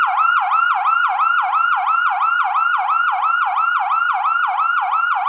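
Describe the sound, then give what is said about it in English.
An electronic siren sounding its wail tone, called "Whale", loud and steady, with rapid, evenly repeating rise-and-fall pitch sweeps, about two or three per second, and no voices. “Whale.”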